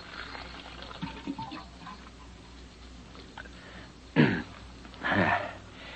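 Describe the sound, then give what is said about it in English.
A water cooler in an office glugs as a cup fills for a drink, two short gurgling bursts near the end over a steady background hiss, with faint shuffling before them. “Hang up your hat and go over to the water cooler for a drink.”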